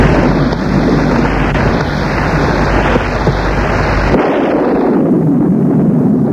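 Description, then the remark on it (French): Storm thunder rolls as a loud, continuous low roar and rumble with a wash of wind-like noise, its deep bass dropping away abruptly about two-thirds through. “Le temps passe, qui lui semble interminable, au bruit de ces ombres menaçantes qui l'entourent et du bruit de l'orage.”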